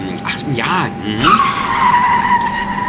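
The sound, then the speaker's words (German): Loud, shrill tire squeal from a skidding rubber car: a few short wavering screeches, then one long sustained high-pitched skid that holds steady to the end. “Was machen Sie denn jetzt schon wieder mit dem armen Vollummi Auto? Ja, schon mal guten Rutsch gewünscht.”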